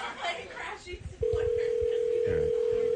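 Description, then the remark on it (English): Voices chatter briefly, then a steady, loud ringback tone from an outgoing phone call to someone's boss begins and hums continuously without a break, with faint talking underneath. “Phone's ringing.”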